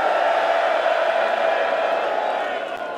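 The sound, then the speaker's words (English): A large audience at a DEFCON event screams and cheers on a count of three for a photo, in one loud, sustained roar of many voices that holds steady for a few seconds and fades only slightly at the end. “I want you to make the most amount of noise.”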